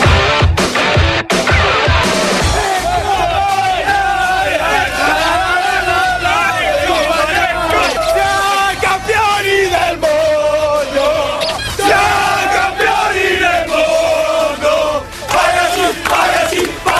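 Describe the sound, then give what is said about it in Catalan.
A large crowd cheers and chants as Pecco Bagnaia and the Ducati team celebrate winning the MotoGP world championship in Valencia, loud and sustained, with overlapping shouts and rising, rhythmic vocal swells throughout. “Així ha celebrat el títol de campió del món de MotoGP Pecco Bagnaia i tot l'equip de Ducati.”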